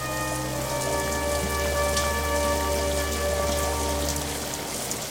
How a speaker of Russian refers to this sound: А пока сеет дождь, настойчивый и тихий, словно предзнаменование или предостережение. Льется ласковый милосердный дождь, освежающий язвы на обожженном теле.